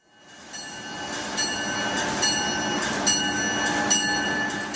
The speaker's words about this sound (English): The sounds of high-speed trains may never tire for business commuters, but what does get old over time are the train's interiors.